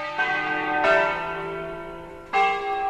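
Church bells in Ticino, Switzerland, ring out in a slow, uneven sequence of three strikes, each loud, bright tone swelling over the lingering hum of the one before. No voices are heard.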